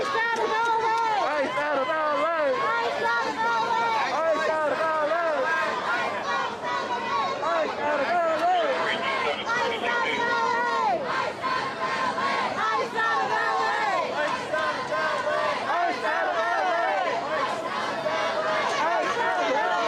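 A protest crowd in LA, waving Palestinian flags, yells 'ICE out of LA' over itself for the whole stretch, many raised voices overlapping into a loud, steady roar of shouting with no pauses.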